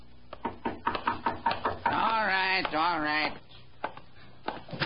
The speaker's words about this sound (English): A tall, slim man, about 40, had been sitting in the front parlor of his rooming house. He'd heard a knock at the door, and he was on his way to answer it.